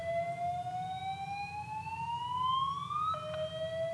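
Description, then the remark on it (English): A fire drill alarm wails alone, a loud tonal siren sliding slowly upward in pitch, then dropping abruptly with a sharp click before sounding again at the lower pitch. “And I think we have a fire drill.”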